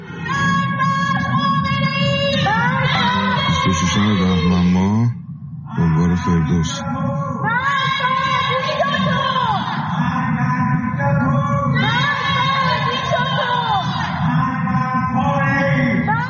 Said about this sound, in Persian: پس از سرکوب‌های شدید در این دو روز اعتراضات فروکش کرد، اما در روزهای اخیر شهروندان شب‌ها از پنجره خانه‌ها و پشت بام‌ها علیه رهبر جمهوری اسلامی شعار سر دادند.